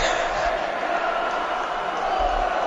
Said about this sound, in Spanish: Y ahora gritos contra Fernández también, contra el máximo accionista, ¿eh? Lo escuchamos.